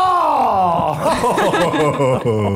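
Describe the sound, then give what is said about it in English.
A stadium crowd at a Rochester Red Wings baseball game boos radio host Scott Spisano of 98.9 The Buzz after his pitch; loud, sustained booing fills the whole stretch, a low, droning vocal jeer that wavers and swells for a couple of seconds without a break. “Did you hear he actually got booed?”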